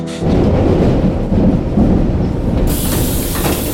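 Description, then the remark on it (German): A loud, continuous rumble and roar of a subway train rushing through a tunnel, with a rattling low-end clatter and a hissing rush that brightens near the end. No voices. “Und schreckst mitten im Klackern und Rauschen des U-Bahn-Tunnels auf.”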